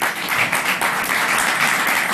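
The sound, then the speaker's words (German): Audience applause, a steady wash of many hands clapping at once, fairly loud and dense throughout without a clear rhythm, and no one speaking over it. “Vielleicht mal mit Applaus, wen das betrifft, dann kann man das hören.”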